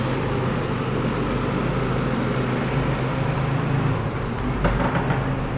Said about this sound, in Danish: Vi skal lige gøre plads til en af dine ansatte, som kører en traktor ind med foder.